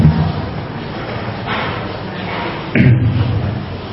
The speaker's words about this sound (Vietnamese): kéo cửa ra đi.